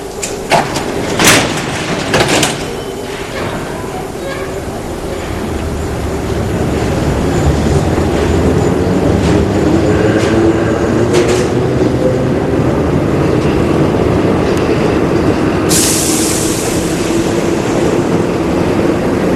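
A subway train rumbles steadily and grows louder after a few sharp clanks at the start, with a sudden airy hiss near the end like doors sliding. No one speaks.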